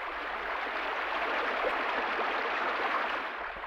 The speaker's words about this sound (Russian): На всем свете солнце светит, а в городе еле дотопали, проливной дождь, как из ведра плещет.